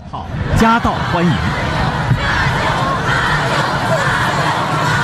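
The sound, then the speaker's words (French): A huge crowd of North Koreans roars and chants "welcome" together in unison, loud and continuous, with a couple of sustained collective shouts rising above the dense wall of voices near the start, greeting the arriving Chinese President Xi Jinping. “Donc ça, c'est la foule qui clame le nom de... Bienvenue, bienvenue, tout ça et...”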